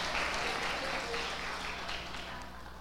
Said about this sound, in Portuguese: Então aplauda o Senhor. Aplauda o Senhor. Glorifica o nome do Senhor, irmão.